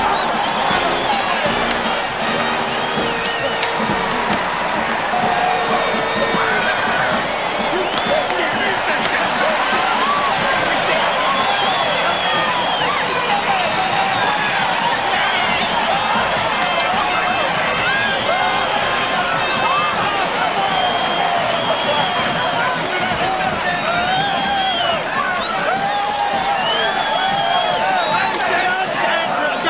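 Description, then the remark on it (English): A large stadium crowd roars and cheers continuously after Minnesota State wins a football game 16-13 with a touchdown on the last play, a dense wall of shouting voices and whoops sustained loudly throughout, with scattered individual yells rising above the din. “And the crowd is going crazy.”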